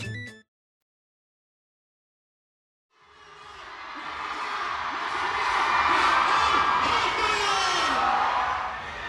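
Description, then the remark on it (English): A large crowd of fans gathered around a stage platform on a convention expo floor, waiting for a fourth-generation idol, erupts into loud cheering and whooping after a brief silence, a dense wash of many voices that swells and holds steady, with scattered shouts rising above the roar. “Right now, I'm standing at the edge of this huge crowd that has gathered around this platform on the convention floor.”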